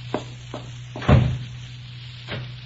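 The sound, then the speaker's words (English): A door slams shut with a heavy thud, preceded by a few light clicks of the latch and followed by a softer knock, over a steady low hum. “Oh, excuse me for banging the door.”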